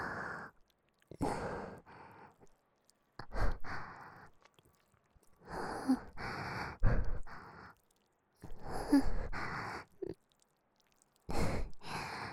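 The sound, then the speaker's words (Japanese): Heavy breathing in a cramped space, a series of loud, breathy inhales and exhales separated by short pauses, with no talking, and an intimate quality. “狭いから息遣いとかよく聞こえる。”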